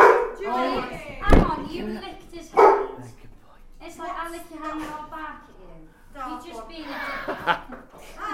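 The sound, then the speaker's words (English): A dog lets out a couple of sharp barks, spaced a second or so apart, while people keep talking and chuckling around it. “It's like I lick your hand and I'll bark at you.”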